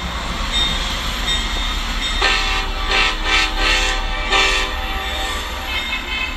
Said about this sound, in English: My son is a rail fan, so I take him to railroad crossings all over the country where he can film rare or unusual engines, sometimes with special horns, and post them to his YouTube channel